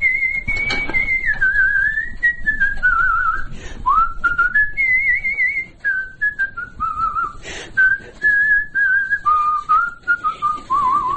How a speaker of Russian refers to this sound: Как я с детства свистел, так все и насвистываю. Сейчас ведь вот тоже все соседи смотрят. Старое все что-то насвистывает ходит. А у меня само собой получается. Все хожу и все насвистываю что-нибудь. Какую-нибудь песню вспомнили, насвистываю.